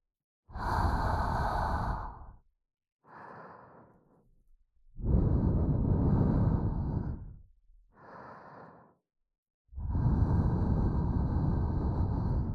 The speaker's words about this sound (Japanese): 吐息の効果が出てきましたね。